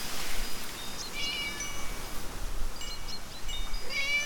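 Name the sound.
cat meowing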